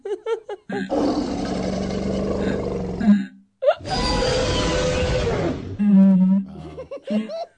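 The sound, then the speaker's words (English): A dinosaur fart sound effect: two long, loud, rough rumbling blasts, each lasting about two seconds with a short gap between, bracketed by brief bits of voice and laughter. “Okay, this one says dino farts.”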